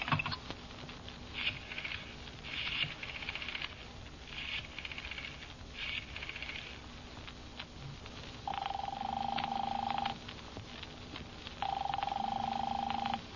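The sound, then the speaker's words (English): A telephone number, 4087, is dialed to call a doctor, in a quick series of short bursts, then two long, steady ringing tones sound on the line, fairly loud with no voices. “I'll call up Dr. Mandel, I say to myself.”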